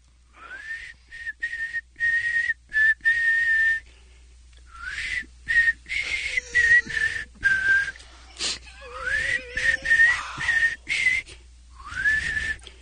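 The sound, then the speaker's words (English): Someone whistles a song melody in short phrases broken by breathy pauses, with wavering pitch glides and a few rough, airy notes, and no talking. “… is going to attempt to whistle a …”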